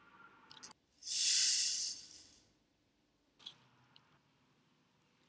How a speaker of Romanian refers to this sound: Deodată, el aude un zgomot care îl deranjează. Ronțăituri și țipete. Este un șoricel.